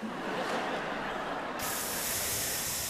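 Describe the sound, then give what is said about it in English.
A steady spray from a Johnson & Johnson aerosol can hisses continuously, fairly loud, with the high hiss brightening midway through as the spray opens up fully. No voices. “Now, teaching a positive attitude about practicing is just one spray away.”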